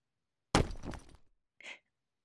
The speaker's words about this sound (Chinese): 这孩子怎么还砸东西呢？